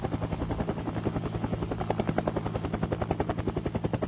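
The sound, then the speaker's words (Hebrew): A man's baritone voice imitates a helicopter propeller, producing a rapid, steady chopping pulse with a buzzy drone underneath, sustained for a few seconds with no words spoken. “מסוק, מסוק, לא יריות, זה הפרופלור שם. הוא קצת חלודה, אבל הפרופלור.”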